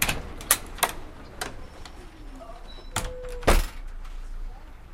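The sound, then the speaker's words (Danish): Mechanical clunks and thumps inside a bus, with a brief motor whine and a heavy double knock near the end, like doors sliding shut over a steady low engine rumble. “Nu hvor du sidder her i bussen”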